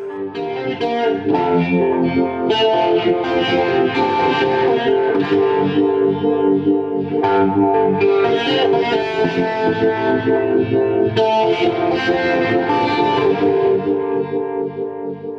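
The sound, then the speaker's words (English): A loud, continuous electric guitar drenched in a sweeping 70s-style phaser, with lush chorus shimmer and a wide, wet reverb tail; sustained chords swell and swirl throughout, with no voices. “Some 70s kind of phaser tones in this one.”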